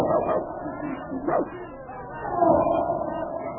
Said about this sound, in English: Golly, listen to that noise over there. Imagine one lion causing all that commotion.